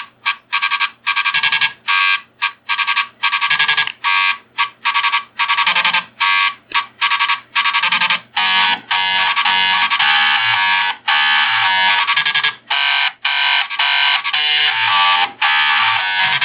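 Two floppy disk drive motors buzz out the Imperial March, a loud, raspy electronic melody of stepped, staccato notes with short gaps, becoming more sustained toward the end. No one speaks.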